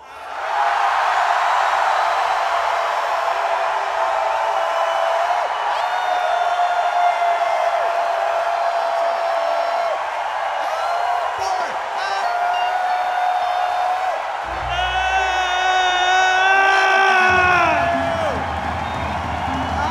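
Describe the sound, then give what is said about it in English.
A large audience yells, whoops and hoots together on a count, in one sustained, loud roar lasting the whole stretch, with a few higher cheers and whistles rising near the end. “Let's do the group holler, the group hoot, I like to call it.”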